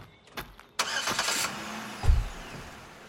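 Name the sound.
car engine starting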